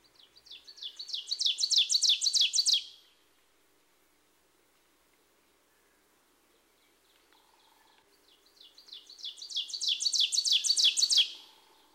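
Two bursts of an ovenbird's song (a warbler), each a rapid run of repeated two-note teacher phrases that swell louder toward the end, separated by several seconds of quiet; clear, no talking.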